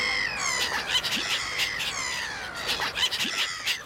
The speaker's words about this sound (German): Also so ein Durcheinander ist tatsächlich typisch für Lachmöwen.